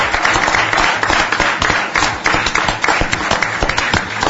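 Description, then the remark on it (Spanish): An audience gives a general round of applause for everyone, including the students, teachers and leadership of the Liceo Jubilar, many hands clapping for several seconds in a dense, loud, continuous wash with no pauses or voices standing out. “Vamos a pedir ahora un aplauso general para todos.”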